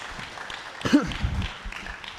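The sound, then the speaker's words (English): A church audience claps together for the Lord in a steady, dense patter of hands, with a brief raised voice cutting through the applause midway. “Somebody give the Lord a hand clap for meeting every need that you have.”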